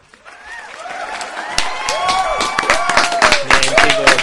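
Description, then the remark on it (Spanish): Canned applause on the show El Embobadero, with no live audience present, swells over about four seconds: dense clapping growing louder, with cheering and whistle-like rising and falling tones mixed into the crowd noise. “Cuando hace falta aplausos enlatados es porque la cosa va muy mala, ¿eh?”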